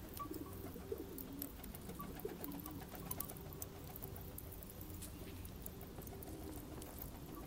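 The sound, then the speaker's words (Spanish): Pigeons coo softly and steadily against a low rustling, fluttering background, with scattered faint clicks and taps. No one speaks. “La coloración dependía según el lugar del círculo en que se encontraban las palomas y la niña.”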